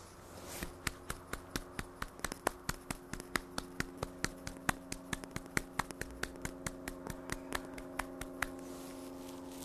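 Steady hand clapping, a long run of sharp, crisp claps at a brisk, even pace of roughly four per second, with a faint continuous hum underneath and no talking.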